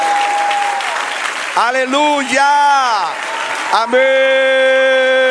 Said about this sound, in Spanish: Otro aplauso al Señor.